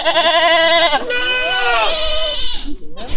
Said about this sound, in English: We are in a zoo and we are looking at the mountain goats. How are they called? Do they have a special name? Or Mountain goats will do. Mm-hmm. With big horns.